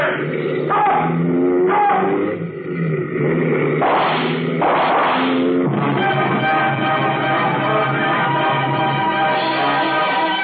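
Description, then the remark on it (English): Loud, roaring engines of motorcycles ridden by pursuing troopers rev and drone continuously for the whole stretch, several overlapping with shifting pitch, unbroken, with no voices. “Behind me, I heard the roar of motorcycles as some of the troopers came after me.”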